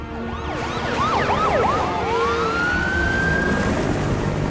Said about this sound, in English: Captain Rich watches as fire trucks and bomb disposal teams race towards his aircraft.